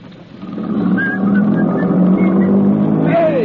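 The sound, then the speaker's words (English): A car engine hums and rises steadily as the vehicle pulls away, with faint whistle-like tones drifting over the low rumble near the end. “Come back with that car!”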